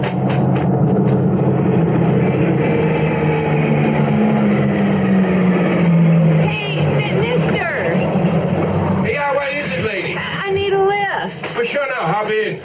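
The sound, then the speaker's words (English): A pickup truck's engine rumbles loudly and steadily as it approaches along a road, its low drone sliding in pitch, with people talking over the noise toward the end. “Okay, it's a pickup truck.”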